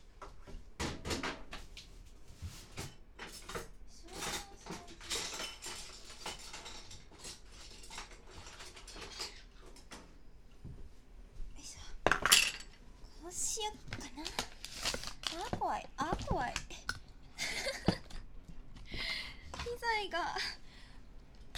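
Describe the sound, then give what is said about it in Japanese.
A spoon clinks and scrapes against a dish in quick, irregular bursts as powdered gelatin is dissolved in it for a coconut soufflé, with a few louder knocks, while a person talks intermittently over the clatter. “とりあえずお皿で溶かそう。”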